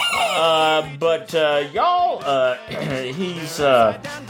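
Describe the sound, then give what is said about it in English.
A voice imitates a chicken: a run of loud, pitch-bending squawks and clucks in quick bursts, with a few drawn-out crowing calls rising and falling between them. “the damn chicken.”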